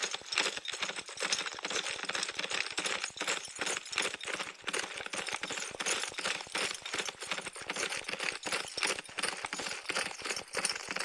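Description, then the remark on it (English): Rapid, steady clattering hoofbeats of a galloping horse, a sound effect from a touchscreen horse-racing game lesson, loud, running continuously for the whole stretch with no talking over it. “Walk your index and middle fingers on the screen to spur your horse to run.”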